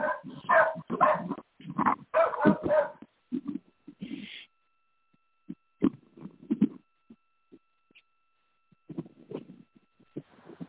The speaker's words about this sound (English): I swear to God, I'm going to shoot my dog if he does not shut up. Sorry, guys.